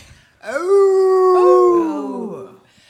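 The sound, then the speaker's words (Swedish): Human voices imitate wolves with one long, loud howl lasting about two seconds, rising at the start, holding steady, then sliding down as it fades, with no talking. “Vi får yla så bäst vi kan idag.”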